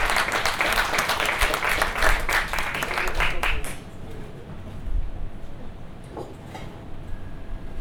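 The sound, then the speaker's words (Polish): An audience claps steadily for about four seconds, a dense, fairly loud patter of many hands, as Piotr Brzuski, Leasing and Development Director of P3 Logistic Polska, is invited to the stage, before the applause abruptly dies away into quiet. “Wielkie brawa.”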